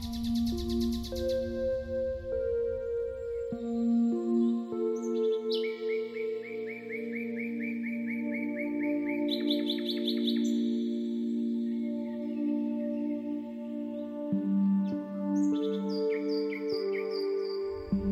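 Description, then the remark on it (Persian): Birds chirp and sing in quick, bright bursts over a bed of soft, sustained ambient music, the calls coming in clusters rather than continuously, clear, with no talking. “گرمای خوشایند آفتاب، صدای آب، صدای پرندگان و نغمه های طبیعت رو با تمام وجود احساس کنید و از بودن در این طبیعت زیبا لذت ببرید.”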